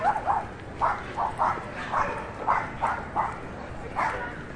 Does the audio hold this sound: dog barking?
yes